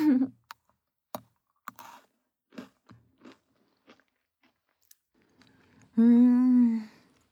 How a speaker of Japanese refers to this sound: なんかさ、静かな部屋にポリポリってポッキー食べる音だけ響いてるって面白いね。